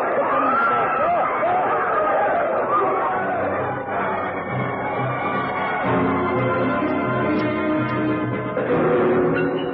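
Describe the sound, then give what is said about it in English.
A panicked crowd in loud commotion after a pistol shot: many voices shouting and clamoring over each other in a dense, continuous babble, with some raised cries near the start. “There was a pistol shot and screams. The crowd panicked.”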